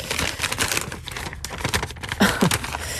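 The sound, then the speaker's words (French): A slip of paper is picked up and unfolded, giving a few seconds of dense, crisp crinkling and rustling with sharp little crackles and no talking. “je vous invite à choisir un autre papier.”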